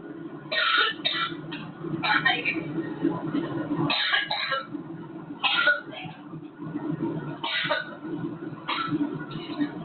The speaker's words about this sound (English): She's turned her back. She turned her back to the camera and is trying to drink water, but is coughing too much to drink.